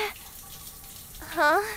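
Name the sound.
shower water running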